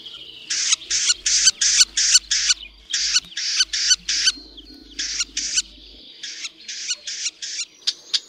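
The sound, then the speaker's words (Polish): A male red-backed shrike repeats short, harsh smacking syllables in quick groups of three or four, loud, announcing his arrival with food at the nest, with no one talking, the bursts continuing steadily throughout. “Swoje przybycie z pokarmem do gniazda oznajmia kilkoma mlaskającymi sylabami.”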